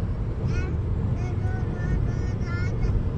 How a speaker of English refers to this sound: Are you going to let him pass or no? There's a car right there passing.